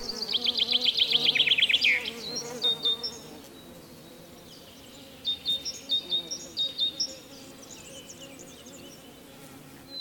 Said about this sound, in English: We love honeybees, don't we? The drowsy buzzing on a summer's day as these little creatures go about their business is one of the wonderful sounds of life. Usually, these amazing animals live quietly in their hives and spaces